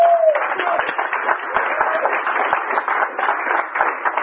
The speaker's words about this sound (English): Y'all give a round of applause for him.